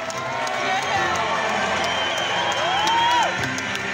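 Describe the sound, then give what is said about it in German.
A large rugby stadium crowd of fans roars and cheers continuously while waving red-and-black club flags, a dense wash of many voices with a few distinct rising whoops and whistles cutting through near the end. “Die Fans jubeln, schwenken Fahnen in den Clubfarben rot-schwarz, Kinder winken mit Schaumstoffschwertern.”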